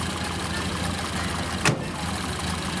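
An old Plymouth car engine idles steadily with a continuous low, rumbling drone, fairly loud, broken once midway by a short sharp knock.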